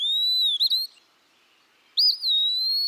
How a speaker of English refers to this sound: Dear Wood Pee-wee, thanks so much for bringing a bit of mystery to my backyard. There's something so tropical about having you in my little South Carolina acreage.